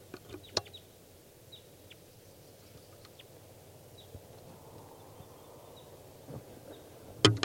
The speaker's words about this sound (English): I've 16 more wild birds here. Here's a wild bird.